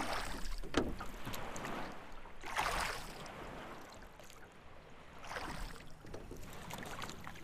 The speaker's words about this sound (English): What is that? A boat! Coming up fast!